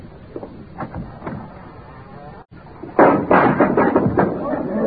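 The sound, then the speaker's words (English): A loose door of a house falls over with a sudden loud bang, followed by a couple of seconds of rattling, knocking clatter as it settles. Quieter shuffling and faint voices come before it. “Door needs a little tightening too, don't it? Just step over the thing, Danny. Just leave it down the floor.”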